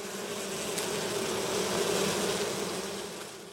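A steady droning buzz of bees holds for a few seconds, then gradually fades as if the swarm drifts off. No voices are present.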